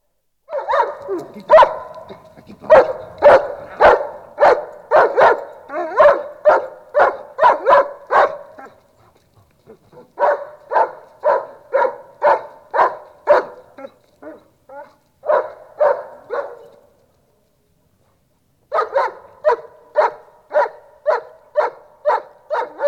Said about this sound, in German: One thousand five hundred years BC. Dog. Köpek. Hund.